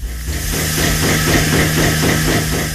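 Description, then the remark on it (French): A milking machine runs steadily at 8:30 at the bergerie du Ménil in Sainte-Scolas-sur-Sarthe, western France, milking goats, ewes and five Jersey cows: a constant hissing rush over a low mechanical hum, with a soft, regular pulsing beat repeating several times a second. No voices. “Cela fait déjà 2h30 que la machine à traire est en route.”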